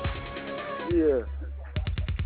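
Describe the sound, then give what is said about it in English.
Voices talk briefly, then a quick, rapid-fire string of about six loud gunshot sound-effect pops rings out like a short burst of automatic fire. “Listen, man, lick them gunshots.”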